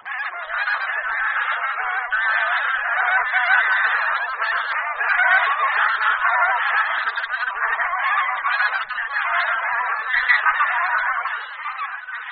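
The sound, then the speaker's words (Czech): A dense chorus of bean goose honking calls fills the whole stretch, many birds overlapping continuously at steady, fairly loud volume, like a large flock calling together with no pauses. “Husa polní požírá především tedy ozimy, na kterých mohou velká hyna těchto husí napáchat i citelné škody.”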